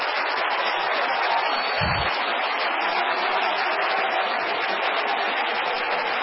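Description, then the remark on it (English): A crowd claps hard and steadily, a dense, continuous wash of many hands with no voices above it, holding the same level throughout. “Clap your hands so hard they turn red.”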